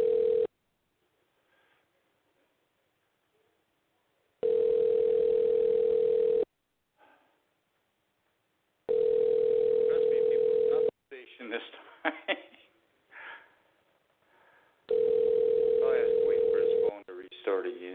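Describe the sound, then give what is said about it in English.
A telephone call to a guest ringing out during a live radio show: a loud, steady, mid-pitched ringback tone sounds in roughly two-second bursts with silent gaps between them, and a voice talks briefly between the later rings. “You know, I'm going to try to go ahead and give him a call one more time and see if we can get him back on here.”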